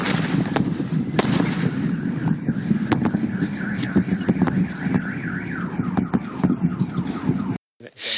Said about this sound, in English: So the Scottish meteor was probably a combination of the two, but maybe more likely it was the sonic boom just because it was moving fast. And it depends what the meteor is made of, if you get any cracks and snap, crackles and pops afterwards.